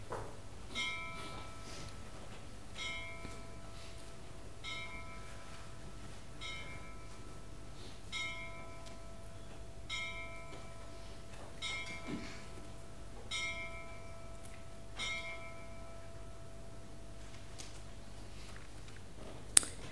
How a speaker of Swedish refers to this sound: Nu får ni sätta er och så ska vi låta vår lilla enkla klocka här ute få ringa.